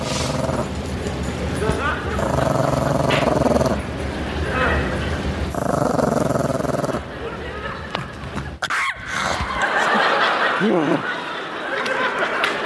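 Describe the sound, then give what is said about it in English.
A dog growls and snarls, loud and rough, in a series of sustained bursts with brief pauses, ending in sharper, higher yips and snaps. “Zach, the evil dog, this is my sister's dog, this dog hates everyone and everything about the world.”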